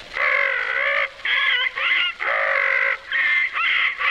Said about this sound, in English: The parrot who squawked.